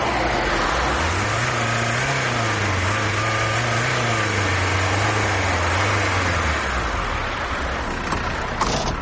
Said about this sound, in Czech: zatekli smo u beogradskoj saobraćajnoj gužvi kako vozi zarđalo Golfa dizelaša sa crnogorskim tablicama starog 22 godine.